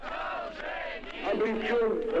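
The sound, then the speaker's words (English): A crowd of people in Vladivostok cheers, applauds and shouts together in greeting, many voices blending into a sustained, fairly loud roar that swells toward the end. “And later that year, he was greeted with cheers and applause by the people of Vladivostok.”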